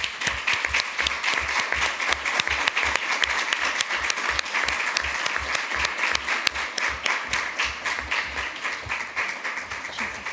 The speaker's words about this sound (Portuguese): Por isso quero pedir-vos mesmo muito de coração uma salva de palmas para estas duas pessoas.